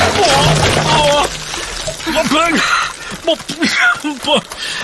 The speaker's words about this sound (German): Das gibt es doch nicht. Jetzt sind alle Wassereimer komplett über mir ausgekippt. Ich bin klitschnass.